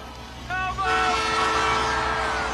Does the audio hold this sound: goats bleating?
no